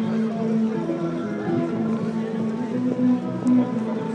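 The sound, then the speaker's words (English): A newspaper seller selling the Evening Echo calls out in a street in Cork on a Saturday afternoon, a low, drawn-out, sing-song cry held on steady pitches, with a couple of louder swells near the end over a constant wash of street noise. “Oh, that sound you heard there was the sound of a newspaper seller in Cork.”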